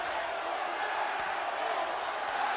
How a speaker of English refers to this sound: Giving him a little round of applause.